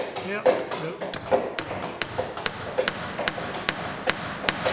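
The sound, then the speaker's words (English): Sharp metallic hammer blows ring out in a steady, rapid rhythm, roughly a dozen strikes with bright high overtones, as iron rivets are put into the hull of a replica ship being built, over a low murmur of background voices and workshop noise. “We're putting rivets in, iron rivets.”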